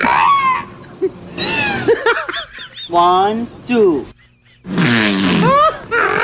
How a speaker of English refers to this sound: Hey, I am just playing like this French scientist. It sounds like the whale farts and then gags because of his own fart.